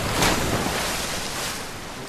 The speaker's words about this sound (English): They enter the surf, and the water breaks across the pony's hindquarters.